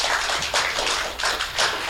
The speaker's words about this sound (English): So can you have a round of applause?